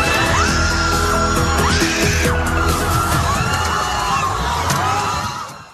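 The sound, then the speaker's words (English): A dense crowd of hundreds of protesters roars and shouts in the street outside the federal building in Westwood, voices overlapping in a sustained loud din with scattered yells and screams rising above it, steady throughout before fading slightly at the end. “There are hundreds of people out there in the street in Westwood protesting outside of the federal building.”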